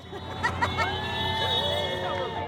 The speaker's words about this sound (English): It's a sunny afternoon. School is out. And 100 teachers or so from the Roaring Fork School District wave signs before the traffic crawling through Glenwood Springs. Want to whip out a honk for education sign?